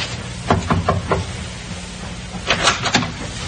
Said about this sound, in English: Captain Booth thought it might be courteous if Miss Parsons were under the weather to pay her a courtesy call. Captain knocked.